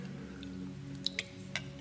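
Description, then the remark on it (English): Sipping water: three short, soft wet clicks and slurps spaced unevenly over a steady low hum, with no talking. “I'm going to take some water so I can try to hold the emotion back.”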